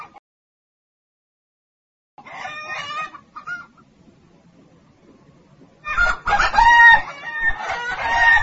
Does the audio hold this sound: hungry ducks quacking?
yes